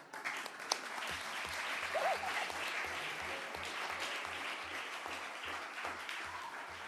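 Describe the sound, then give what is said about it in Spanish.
Sustained applause during a council plenary session, allowed after children speak in defence of the rural school: a dense crackle of many hands clapping at steady volume, with a low rhythmic thumping pulse underneath roughly every third of a second. “En los plenos no se aplaude, pero por defender la escuela rural lo permito.”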